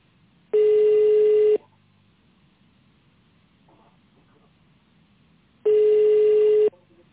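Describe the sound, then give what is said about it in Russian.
Telephone ringback tones while waiting to be connected to a company secretary after an automated phone menu: two loud, steady mid-pitched beeps, each about a second long, separated by roughly four seconds of quiet line hiss. “Если вы знаете добавочный номер сотрудника, наберите его в тоновом режиме или дождитесь соединения с секретарем.”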